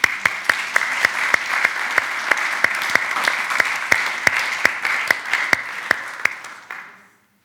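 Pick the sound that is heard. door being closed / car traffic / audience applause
audience applause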